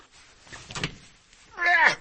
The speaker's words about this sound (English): I can sit here and push on this all day long, and it's not going to open. But I need this to open. Come on. And of course, I can push on the panic hardware and get out the door, but I can push on this door. It's not going to go anywhere.